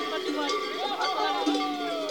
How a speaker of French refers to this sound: Quelques minutes d'attente et puis des cloches se mettent à retentir.